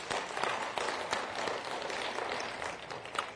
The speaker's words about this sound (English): We applaud that.